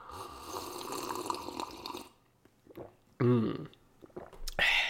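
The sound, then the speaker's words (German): Someone takes a sip of a drink, with about two seconds of wet slurping and swallowing, a brief pause, then a couple of short, satisfied vocal exhales. “Das sage ich Ihnen nach einem weiteren Schlückchen. Prost.”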